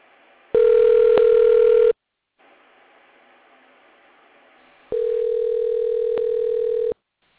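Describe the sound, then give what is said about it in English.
A telephone ringback tone from a call just dialed sounds twice, each steady, mid-pitched ring lasting about two seconds with a long pause between, while a faint line hiss fills the gap. No one speaks. “And let's see what happens if I dial.”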